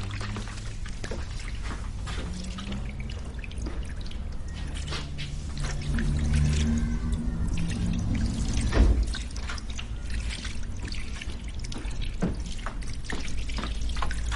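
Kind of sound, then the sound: household object, water running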